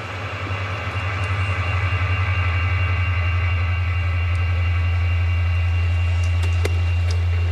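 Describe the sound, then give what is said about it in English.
Steady fake crowd noise played in an empty baseball stadium during a game: a constant droning wash with a heavy low rumble and no distinct cheers or voices, holding level throughout with only faint flickers on top. “So players had to deal with the empty stadium, but also with fake noise.”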